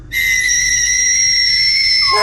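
A ghost whistle is blown during a ghost hunt in one long, loud, shrill blast, held steady for about two seconds with no talking, then wavering and dropping briefly at the very end.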